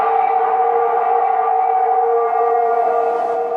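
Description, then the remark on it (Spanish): A long, loud wolf howl from the film An American Werewolf in London, sound design by Richard Lightman, held at a steady, rich pitch for several seconds without rising or breaking, eerie and siren-like, with no one speaking. “Película, El Hombre Lobo Americano en Londres. Diseñador de audio Richard Lightman. Sonido, el lobo.”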